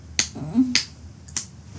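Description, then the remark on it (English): Three sharp, crisp slaps of a hand on skin, spaced unevenly over about two seconds, fairly loud, with a faint low murmur between the first two. “Can you hear me slapping it?”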